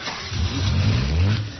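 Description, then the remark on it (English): On a very cold night, a car engine turns over and catches, then revs up in a loud, low rumble that rises and holds for about a second before easing off. No one speaks. “This car is incredible. It's a present from my father.”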